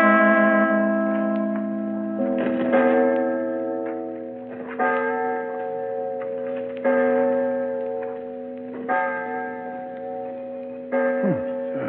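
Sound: clock striking the hour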